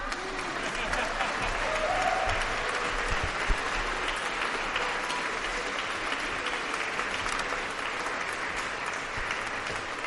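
Sustained audience applause, a dense steady wash of clapping hands lasting the full ten seconds at an even, fairly loud level, with faint crowd murmur mixed in.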